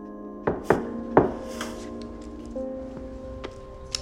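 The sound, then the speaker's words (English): Three sharp knocks on the wooden door of Wes's dimly lit office at MRU's central headquarters in quick, uneven succession, followed a couple of seconds later by two fainter taps, all over a steady, low tonal drone. “Joe raps on the door.”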